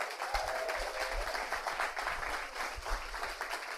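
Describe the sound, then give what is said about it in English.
A crowd applauds steadily, many hands clapping in a dense, continuous patter that stays fairly even throughout. An audience at a storytelling event is applauding the event's helpers, with no speech over it. “A big round of applause for them.”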